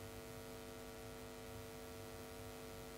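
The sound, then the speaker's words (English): A steady, low electrical hum from lights and AV equipment in a meditation hall drones continuously with faint static hiss layered on top, quiet and unchanging throughout, with no voices or other sounds. “Just the gentle hum of the lights, of the AV equipment.”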